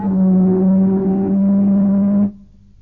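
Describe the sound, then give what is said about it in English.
The ship's siren of HMS Troutbridge, sounded by the Chief as a signal to what are thought to be ships of the German fleet, gives one long, loud, steady blast, a deep droning tone with bright harmonics that holds for over two seconds before cutting off abruptly. No one speaks. “Give them a blast on the ship's siren, Chief.”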